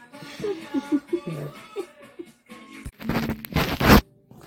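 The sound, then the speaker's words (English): Soft murmuring voices and a chuckle give way to a loud, brisk burst of riffling and rustling, like cards or game pieces being shuffled during a game, lasting about a second. “You're doing a lot of shuffling.”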